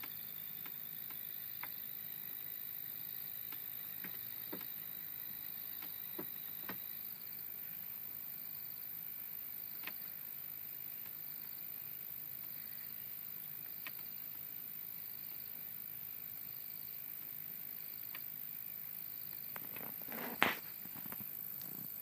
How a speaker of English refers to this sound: They just lie and listen to this for hours. Loud crickets. Listen to that. Wow. They're loud. There is a frog. There's a frog. Did you hear that?